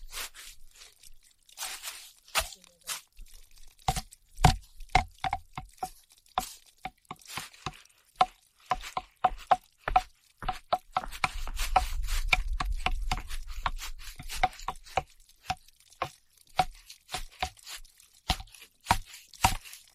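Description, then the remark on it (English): Dozens of crisp knocks tapped on wood in an uneven, almost musical rhythm, with a brief low rumble swelling underneath midway through. No one speaks. “That wood makes a really nice instrument.”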